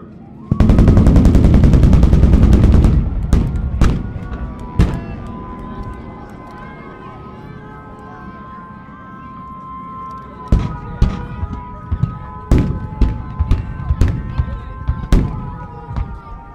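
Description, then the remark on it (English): Pyrotechnic explosions during the Toro Toro Toro display at an airshow, a Japan versus America show with full light show and explosions: a loud, roaring blast lasting a couple of seconds, then a scattered series of sharp, cracking bangs over a steady droning engine hum. “we've just seen Toro Toro Toro, the explosive one we were on about, the Japan versus America with full light show and explosions.”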